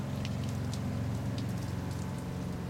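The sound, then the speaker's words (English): Steady, heavy pouring rain from the east drums on a sailboat at sea, a dense continuous patter with scattered sharper drop hits over a low rumbling hum, heard from inside the cabin while the boat pitches. “So between the pitching of the boat and the pouring rain, there's not much to do except stay here inside my cabin.”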